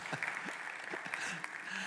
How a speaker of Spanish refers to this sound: Ok, gracias. Dios me los guarde y me los bendiga. Démosle un aplauso a esos jóvenes.